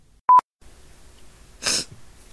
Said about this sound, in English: Oh, there's sniffles.